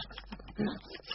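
A dog named Lucky gives one short, low bark-like yelp in the middle of an otherwise quiet moment, fairly soft and heard on its own without any talking.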